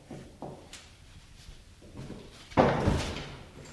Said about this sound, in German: Als die alte Frau sich wieder hinlegen wollte, hörte sie wieder: Nanu, wer klopft denn schon wieder an die Tür?